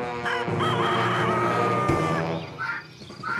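A rooster crows loudly, one long drawn-out cock-a-doodle-doo lasting most of the moment, followed by a few softer clucks. No one speaks.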